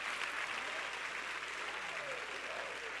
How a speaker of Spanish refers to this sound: Si tú quieres, aplaude. Y si no, no.